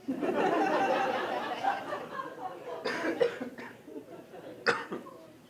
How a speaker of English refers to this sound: Excuse me, sorry. Coughed in the wrong thing.